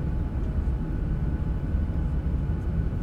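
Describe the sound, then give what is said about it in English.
A steady, dense low-frequency roar of an airplane cabin in flight fills the space without pause, a constant drone with no voices present. “I just want to get off this plane.”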